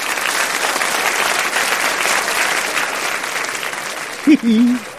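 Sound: audience applause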